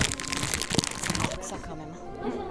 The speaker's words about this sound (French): Donc, croquignoles, est-ce que ça croque?